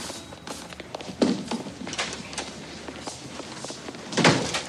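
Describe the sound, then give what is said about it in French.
A door is pushed shut with a solid thud, preceded by an earlier knock of handling and faint shuffling movement, with no one talking. “Ferme la porte.”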